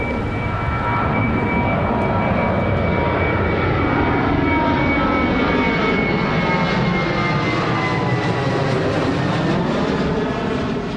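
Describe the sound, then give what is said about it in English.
A loud, continuous roar of jet airplanes passing low over Neptune Road in a Boston neighborhood, the broad rumbling engine noise sweeping in pitch and filling the whole stretch with no talking. “Planes still roar over Neptune Road today.”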